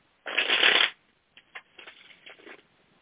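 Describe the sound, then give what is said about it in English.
Playing cards being shuffled: one loud, dense riffle that lasts under a second, followed by a few softer, scattered flutters and taps as the deck settles. No voices are heard. “I'm shuffling for you now.”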